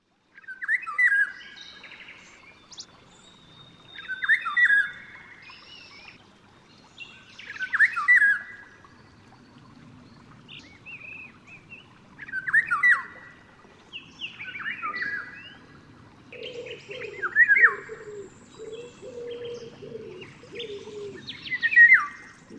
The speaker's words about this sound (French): Écoutez le chant du loriot d'Europe.